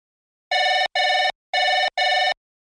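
A telephone rings in two double bursts, each a pair of short, bright, steady electronic tones with a brief gap between pairs, clear and alone with no talking, on a call to a pet animal mating service.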